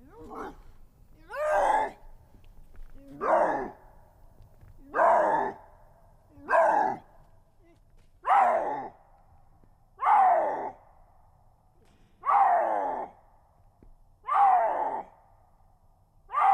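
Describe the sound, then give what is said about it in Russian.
A male lynx's mating calls: about nine loud, rough, moaning growls, each dropping in pitch, repeating steadily every couple of seconds with no one talking. “у меня тоже в распоряжении есть еще и брачные крики рыси”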